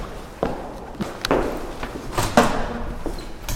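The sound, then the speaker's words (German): A door into a hospice is opened amid several soft thuds and shuffling footsteps, with a few sharper knocks and clicks against a quiet indoor background. “öffnet die Tür in eine andere Welt, in das Hospiz Erftaue.”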